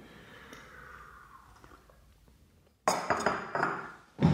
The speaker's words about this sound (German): Prost sagt man ja beim Kaffee nicht. Ach, aber bei Jim Jarmusch gibt es Szenen, wo die mit Kaffee anstoßen. Prost. Prost.